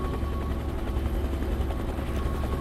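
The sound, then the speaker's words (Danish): A rescue helicopter from Svalbard drones steadily, its low rotor thump pulsing continuously with a loud, dense engine roar and no voices, as it flies a very long-distance rescue mission over the Arctic Ocean. “Det er verdens længste redningsaktion med helikopter.”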